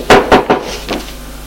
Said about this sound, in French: Une fois habillé, il attend debout. On frappe à la porte.